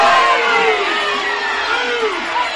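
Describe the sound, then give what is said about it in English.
A large stadium crowd at a football game roars steadily and loudly as officials move the ball's spot back from the 35-yard line to the 33-yard line, many voices rising and falling together in drawn-out groans and shouts of displeasure throughout. “Now they're backing it up, much to the dismay of the crowd.”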